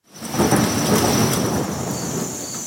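A thunderstorm rumbles loudly and steadily, with deep rolling thunder beneath a dense hiss of heavy rain, continuous throughout.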